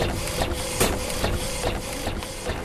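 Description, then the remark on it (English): A new T-shirt printer runs steadily with a constant mechanical hum and repeated rhythmic clacks and whooshes as the print head shuttles back and forth, no voices present. “After a few years building credit, they were able to get a loan for this new T-shirt printer.”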